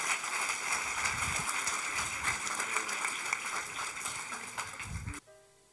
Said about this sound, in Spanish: Un aplauso al pastor.